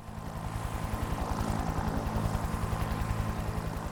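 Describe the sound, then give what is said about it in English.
A helicopter from White Mountain, carrying four mountain climbers, arrives at the hospital in the village of Greenview in the Rocky Mountains, USA; its rotor thuds in a steady, rapid rhythm with a broad engine whine, growing slightly louder as it approaches; no voices. “A helicopter from White Mountain is arriving at the hospital.”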